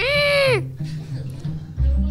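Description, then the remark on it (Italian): A person vocally imitates a fleeing cat with a short, loud, strained screech, a rising-then-falling yowl lasting about half a second, followed by quieter rustling and low background noise. “Suspense, e durante la suspense il silenzio del castello è rotto da un gatto che scappa. Fai rumore?”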